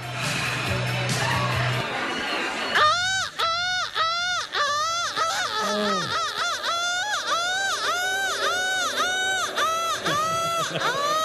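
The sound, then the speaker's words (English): A loud crowd booing, starting as a rumbling murmur and then swelling into a sustained roar of rising and falling, rhythmic wails that continue without pause to the end. “Listen, I've never heard a boo break windows.”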